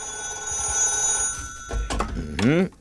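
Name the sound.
telephone ringing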